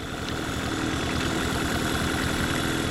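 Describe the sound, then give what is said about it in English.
A small boat motor idles steadily on Crusand Slough, a backwater of the lower Wisconsin River near the village of Lone Rock, a continuous low rumbling hum with a faint rhythmic chug that holds even throughout, with no voices. “head out on Crusand in a small boat.”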